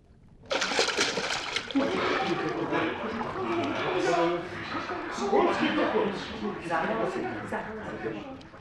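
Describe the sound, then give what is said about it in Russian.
Loud, continuous splashing and churning water as servants plunge in and thrash about to rescue a man, with excited voices shouting over the commotion. “Слушаюсь, ваше королевское высочество, слуги, вперед, в воду.”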